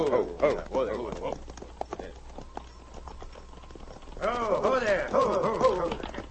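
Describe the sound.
Horses' hooves clip-clop in a steady, uneven rhythm, drawing closer, while people talk over the clatter for much of the time.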